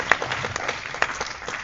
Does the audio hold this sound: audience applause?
yes